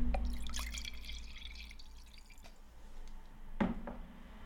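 Red Marselan wine pours and splashes into a glass for a couple of seconds, fairly quiet, followed by a sharp little clink near the end. No one speaks.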